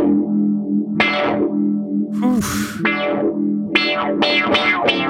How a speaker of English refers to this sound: The other one I have chosen is an envelope filter. Oh. I'm gonna turn that on. Give me the envelope filter and the phaser.